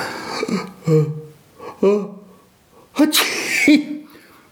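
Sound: sneeze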